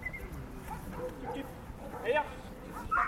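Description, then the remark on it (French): A dog gives a few short, high-pitched yips and barks, coming in two quick bursts, with muffled voices and background noise underneath. “Déjà, il faut des chiens très équilibrés, très sociables, pas du tout d'agressivité envers les personnes.”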